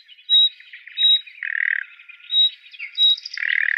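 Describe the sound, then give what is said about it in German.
A common nightingale's clear, slightly rising whistled alarm notes repeat about four times at an even pace, fairly loud, alternating with short harsh, rasping churrs and no voices. “Spiel doch mal die Nachtigall ab, wie die ruft.”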